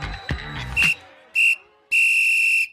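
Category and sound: signal or alarm, whistle blown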